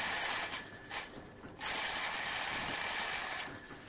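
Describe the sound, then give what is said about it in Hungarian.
A loud, continuous electric bell rings for the whole stretch, a harsh, steady metallic clatter with a couple of brief dips, with no voices. “Összerezzen meg a csengőszóra.”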